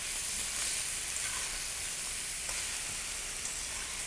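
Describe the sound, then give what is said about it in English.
Oil for a stir fry sizzles steadily in a hot pan, a dense, bright crackling hiss that holds at an even level throughout, with a few sharper pops breaking through and no voices. “And I think I'm seeing that this needs a little bit more oil. Ideally, what you should do is pour it down the outside, because it will heat up from the pan before it gets to the food.”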